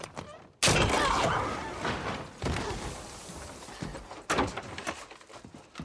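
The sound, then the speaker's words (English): A house door is abruptly opened with a loud thump, followed by a few seconds of rough rustling noise and two more heavy knocks or bumps, in a film scene where Frances de la Tour and Michael Gambon open the door. “in which seems to be an unexpected post-apocalyptic nod to Rising Damp, which he turns up at a house... in which a machine gun toting cannibal Francis de la Tour and Michael Gambon open the door.”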